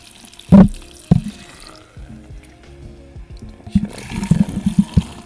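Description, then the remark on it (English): Liquid pours right beside the microphone: a couple of sharp splashy bursts, then a quieter trickle, swelling into loud, bubbly glugging near the end. No one speaks. “Pouring over the microphone, always a good idea.”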